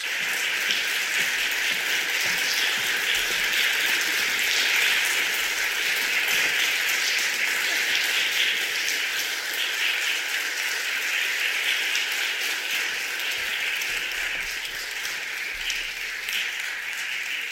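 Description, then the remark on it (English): Loud, sustained audience applause welcoming scholarship winners at Sanctuary: a dense, steady wash of many hands clapping that holds at an even level for about seventeen seconds, with no voices heard over it. “So would you please welcome the scholarship winners to Sanctuary here with loud applause.”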